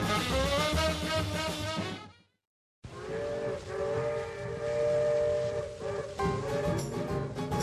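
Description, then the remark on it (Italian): A loud steam train whistle of the Indian Pacific train, travelling from Sydney across the desert, blows in two long blasts, a brief one, a short silence, then a sustained chord-like wail over rumbling train noise, with no talking. “In carrozza comincia l'avventura, veloci come un fulmine nel deserto eterno.”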